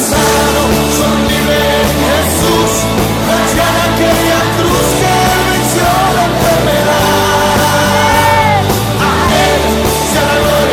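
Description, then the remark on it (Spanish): A large crowd at a Spanish-language religious service shouts and yells together in a loud, continuous wall of voices, someone crying "¡tú eres libre!", with raised cries rising and overlapping throughout, sustained without pause. “Alguien grita: ¡tú eres libre!”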